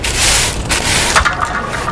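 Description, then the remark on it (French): A drink can dropped by a woman clatters onto hard pavement on a street in Angers, France, near a trash bin, with a couple of sharp metallic knocks and a short scraping rattle, loud, over a steady wash of outdoor noise. “Madame, vous avez laissé tomber votre canette.”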